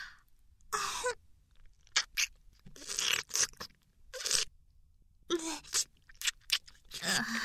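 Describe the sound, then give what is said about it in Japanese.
Wet, smacking sounds of a penis being licked come in irregular bursts, some short and clicky, others longer and slurping, moderately loud with quiet gaps between them and no talking. “先輩のチンポやっと舐めれる。”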